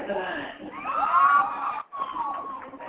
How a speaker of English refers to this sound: What's that? I got a lot of the crowd yelling and excitement behind me. It's hard to hear. Well, I'll tell you what, this is one packed house. They come to watch a great bull ride